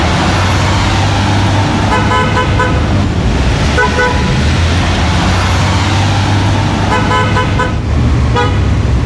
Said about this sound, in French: Alors vous, évidemment, c'est klaxon et cette voix, ça vous dit pas grand-chose. Des petits coups de klaxon dans une ville de l'Amérique profonde. Oui, évidemment, c'est plus banal.